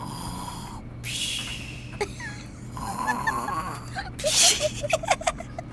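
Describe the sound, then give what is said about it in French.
A voice mimics a father's loud snoring, producing several rough, rattling snorts and wheezy exhales in an uneven rhythm, with a steady low hum underneath. “J'entends mon oreiller qui ronfle comme papa. Ton oreiller ronfle pas comme papa. Papa, il fait...”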